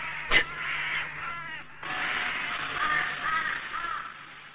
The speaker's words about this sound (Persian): کلاخ ها که آسمان رو تسخیر کردند، صابون دزدی که می کنند، هیچ پرنده های دیگر هم حق ندارند در آسمان پرواز کنند.